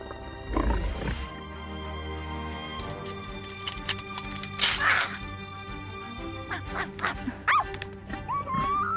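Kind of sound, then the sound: animal, dog growling and barking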